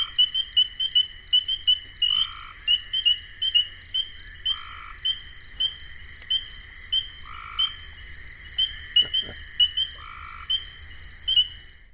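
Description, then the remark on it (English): A dense chorus of spring peeper frogs: many high, piping peeps repeating rapidly and overlapping in a steady wall of sound, with a lower call recurring every couple of seconds. “Mr. and Mrs. Spring Peeper. And I love spring peepers because when you're hearing them, you know that spring is here.”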